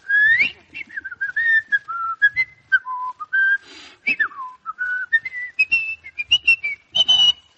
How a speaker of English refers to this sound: The way you whistle, it sounds like the dog has a cat up a tree.